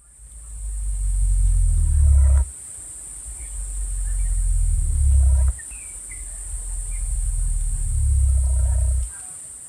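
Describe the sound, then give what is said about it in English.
Three deep, very loud rumbling calls from a cassowary, among the lowest-frequency bird sounds at around 23 hertz, each swelling for two or three seconds before cutting off abruptly, over a steady high-pitched buzz of insects. “So it's possibly related to the sound that they make, which is like a deep, very loud rumbling.”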